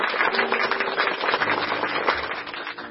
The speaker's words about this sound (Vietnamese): Xin chào tất cả các bạn, các em thiếu nhi, chúng ta hân hoan chào nhau một tràng pháo tay nồng nhiệt.